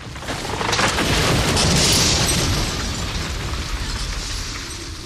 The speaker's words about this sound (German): Laut ist das Brechen des alten Astes. Mit seinem Fallen fällt auch der windschiefe, gelb beflechtete Mostbirnenbaum.